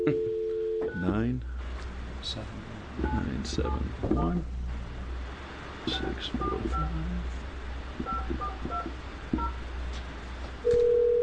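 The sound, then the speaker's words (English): A phone call is placed to a father-in-law during a House Committee on Veterans and Emergency Preparedness hearing: a phone line tone gives way to a run of short touch-tone dialing beeps, followed by another steady tone at the end, with faint voices and a low hum underneath. “If you want to stay there for just a minute, we're going to call your father-in-law.”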